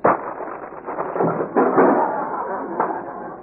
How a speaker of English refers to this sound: Well, there goes the chair. The only one in this county, too. Too bad.